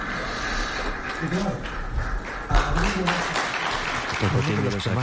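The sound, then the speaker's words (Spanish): A crowd applauds steadily, a dense, crackling wash of clapping that keeps going for the whole stretch while a man speaks loudly over it; the national team coach Luis de la Fuente is among those applauding most. “Uno de los que más aplaude es el seleccionador nacional Luis de la Fuente.”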